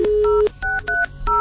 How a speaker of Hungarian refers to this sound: De azért, mert elárultad, nem hallottam, hogy tárcsáztam.